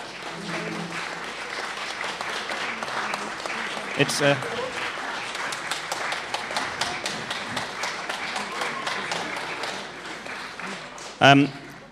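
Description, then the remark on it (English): An audience applauds a dance group and a choir steadily for several seconds, dense overlapping clapping at moderate volume, with a couple of sharper louder bursts partway through and near the end and faint crowd voices mixed in. “Just give the wonderful dance group and the choir another round of applause.”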